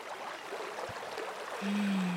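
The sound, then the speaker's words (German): A river flowing through a forest rushes steadily and evenly throughout, a soft continuous wash with no voices. Near the end a low steady hum rises above the flow. “Dann lief er durch den Wald, bis er an einen Fluss kam.”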